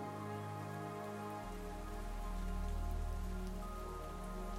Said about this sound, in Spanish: Quiero que te imagines abriendo la puerta de tu casa y saliendo a caminar bajo esta lluvia que está calmada y tranquila.